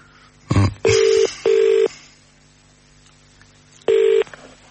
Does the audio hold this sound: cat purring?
no